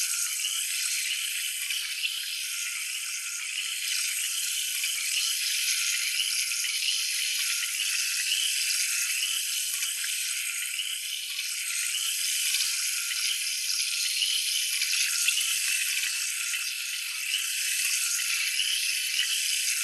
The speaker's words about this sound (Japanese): 一度浮いた汚れをシャワーで落とさせていただきます。炭酸泉を当てますね。